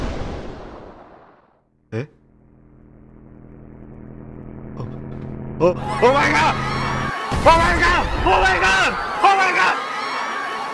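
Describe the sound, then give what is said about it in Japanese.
After a sharp bang, a steady engine-like drone swells as the Wright Flyer takes off, then a crowd bursts into loud cheering and excited shouting that fills the last few seconds. “大歓声が上がる中、今ライトフライヤー号が飛び立ちました。”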